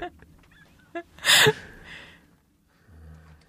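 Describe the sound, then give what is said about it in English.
A single loud, harsh crow caw rings out, a brief raspy burst standing out against a quiet background with faint incidental noises before and after. “Fucking crows.”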